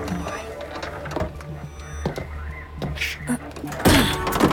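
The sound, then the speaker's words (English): A door is unlocked and swung open: a series of heavy mechanical clunks and latch clicks over a low steady hum, ending in a louder rush of sound as it opens. “Someone's at the door.”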